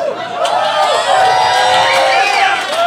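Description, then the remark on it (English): An audience cheers and whoops loudly and steadily for a few seconds, many voices overlapping in a dense, bright roar with occasional higher shouts rising above it. “Some cheer, but others of you are like, you're older than 30, bro.”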